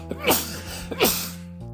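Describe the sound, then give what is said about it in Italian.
Two sharp sneezes in quick succession, each a loud burst with a brief catch of breath before it, over a low steady hum. “Oggi va così, d'altronde piove, c'è il sole, e insomma questo starnuto lo certifica, ma noi andiamo oltre.”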